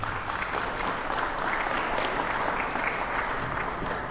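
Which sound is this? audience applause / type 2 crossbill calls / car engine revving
audience applause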